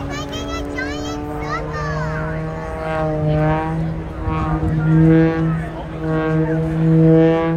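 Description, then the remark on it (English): A loud, droning propeller whine from a small civilian aerobatic plane at a 2023 air show holds a steady low pitch while its upper harmonics warble and sweep up and down as the plane tumbles end over end. A very young fan's excited voice rises over it. “when the airplane is tumbling end over end, the propeller makes that very distinctive sound”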